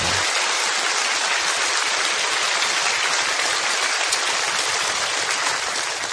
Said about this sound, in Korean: 우리 다음 세대들과 또 특세를 위해서 수고하신 분들을 위해서 주님 안에서 우리 격려의 박수로 기도합니다.